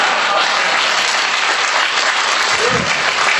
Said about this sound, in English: I like that you guys applaud. That's, why would you applaud that? That's horrible.